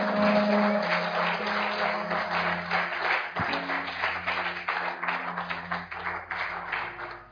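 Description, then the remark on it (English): An audience claps steadily, a dense, continuous patter of many hands that stays fairly loud throughout, with a low hum running underneath and no talking. “You see, it's a good place to clap.”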